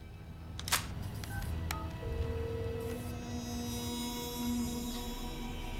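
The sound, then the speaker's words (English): A couple of short electronic keypad beeps from a cell phone being dialed by a man, with sharp clicks, followed by longer steady tones over a low rumbling background. No one speaks. “In a listening room next door, the mercenary's colleague gives him the nod and he gets on his cell phone.”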